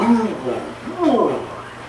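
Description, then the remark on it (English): A person voices a short, growling lion roar imitation, two rising and falling vocal bursts, with a faint low hum underneath. “I started doing the lion.”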